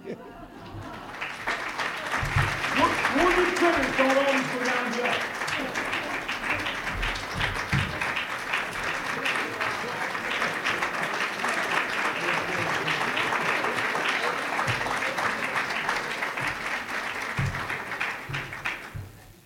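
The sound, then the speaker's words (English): Sustained audience applause, a dense steady patter of many hands clapping for about twenty seconds, with a few voices briefly audible underneath before it tapers off. “Last thing he said while we were clapping is what?”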